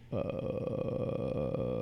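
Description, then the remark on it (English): A person sings their lowest note, a single very low bass note held steadily for nearly two seconds after a sudden start, with a rough, gravelly tone that sounds almost like a drawn-out burp. “Why does it sound like that? Like a burp.”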